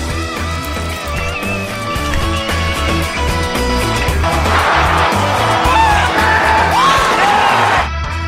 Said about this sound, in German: Ja, das waren Jubelrufe bei den Olympischen Spielen, zusammengestellt vom Internationalen Olympischen Komitee. Der Clip ist Teil einer Werbekampagne.